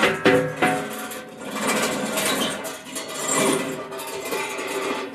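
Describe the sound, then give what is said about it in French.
A lever on a blowing well (puits souffleur) mechanism is operated, giving a steady mechanical clattering and whirring with a few sharper knocks at the start, fairly loud, with no voices. “C'est-à-dire que si j'actionne la manette ici, d'ailleurs je vais pouvoir le faire, on va pouvoir réguler un petit peu les vents qui se trouvent autour de nous.”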